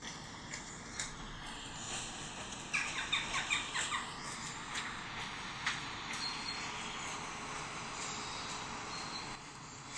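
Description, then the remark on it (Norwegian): Faint outdoor ambience in a forest with birds calling, including a brief cluster of harsh crow squawks early on and scattered calls after, with no one speaking. “Jeg hørte fugler i bakgrunnen. Jeg tror kanskje det du som trengte en liten... kråke.”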